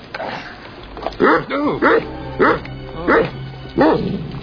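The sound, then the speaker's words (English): Guard dogs barking in a steady series of about five loud, evenly spaced barks, with some faint background noise between them. “They got killer guard dogs here.”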